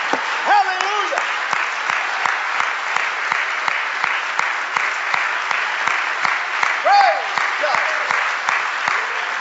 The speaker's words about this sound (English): Do you love Jesus? A whole lot or a little bit? Come on, a whole lot or a little bit? Would you clap your hands to him and show him how much you love him?